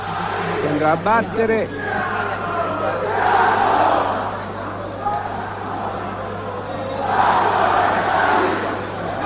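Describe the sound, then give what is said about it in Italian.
Football supporters chant together in a stadium during a penalty shootout involving Ancona 91-92. The chant is a dense roar of many voices that swells in two loud waves, with a brief higher-pitched shout early on and no commentary over it. “Io sto zitto apposta per farvi sentire il coro dei tifosi che non hanno smesso un attimo di cantare come in una gara di campionato.”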